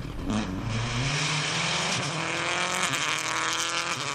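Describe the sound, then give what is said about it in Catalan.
A Seat street car's engine roars at high revs as rally driver Ramon Cornet drives it hard at pace in a caravan of many cars, the pitch rising and shifting with each gear change, loud and sustained with no talking. “El meu conductor, el Ramon Cornet, és un pilot de ral·lis però porta un Seat de carrer i tot i així va fortet, a ritme.”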